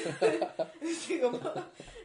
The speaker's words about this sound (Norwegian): Så prøver jeg meg på sånn stille host.